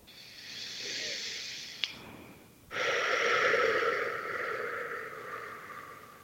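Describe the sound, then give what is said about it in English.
A person doing a breathing exercise takes a slow, airy inhale, then a brief pause with a small click, followed by a longer, louder, breathy exhale, with no talking. “Breathe deeply in and out and then up into your heart.”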